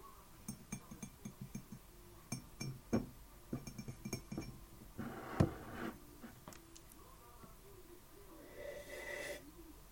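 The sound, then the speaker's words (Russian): A mug of tea is tapped again and again in an irregular run of sharp, ringing clinks with a bright ceramic tone, followed by a soft hissing rustle at the end. “Правильно. Это кружка с чаем.”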